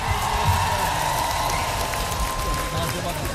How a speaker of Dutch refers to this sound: Applaus voor jullie, man!